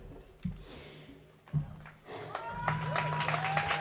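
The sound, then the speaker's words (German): Scattered clapping from an audience builds into a steady, dense wash of applause, with some crowd noise mixed in and a few low thumps early on. “Ich sage das jetzt nicht, um Applaus zu kriegen.”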